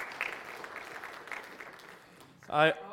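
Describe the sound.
A round of applause from a crowd for someone who read a passage that morning, a steady dense patter of many hands clapping that slowly thins out, before a single voice cuts in loudly at the end.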